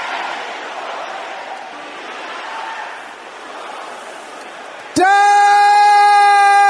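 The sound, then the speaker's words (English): A large audience at a prayer service shouts together in a loud, dense roar of many overlapping voices, which cuts off abruptly into a sustained, bright electronic-sounding tone for the last couple of seconds. “Any problem in my life because of the sins of my parents, can I hear you shouting that loud?”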